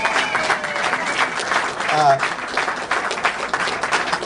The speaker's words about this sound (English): And if we could just have a round of applause, I thank you so much for everything.